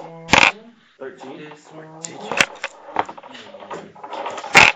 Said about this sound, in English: Both of you roll percentile dice. Low number. I rolled low.